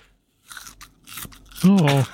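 Wet crunching bites and chewing of an unripe banana in a quick irregular burst, followed by a loud drawn-out vocal groan of distaste.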